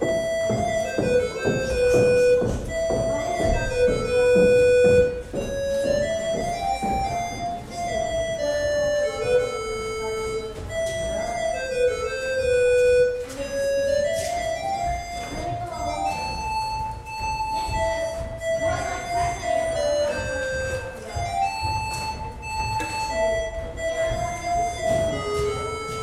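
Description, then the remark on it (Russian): In a corridor of School No. 16, a bright electronic end-of-lesson bell plays a continuous Soviet melody with clear, ringing harmonics in place of the usual metal ringing, while footsteps tap steadily underneath. “Шаги по коридору школы номер 16 и звонок с урока.”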